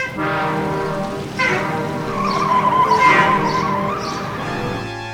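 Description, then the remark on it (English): A semi truck swerves to avoid a car pulled out in front of it, its tires skidding in a loud, continuous squeal over engine rumble that surges partway through, peaks, then slowly fades. No one speaks. “As I lurched into his path, he swerved and I instinctively screamed and turned away, missing him by inches.”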